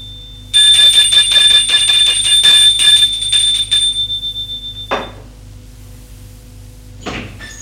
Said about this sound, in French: Il sonne à la porte.